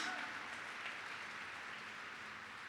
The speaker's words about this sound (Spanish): Dale un aplauso más grande, más fuerte, más fuerte.